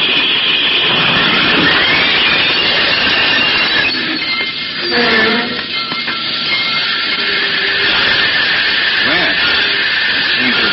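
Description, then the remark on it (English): A loud, steady roar of a moving train, with a brief squealing, tonal grind midway through as the brakes are applied after a red lantern is seen burning alongside the tracks, before the rumbling noise carries on. “Slap on the brakes, Jack.”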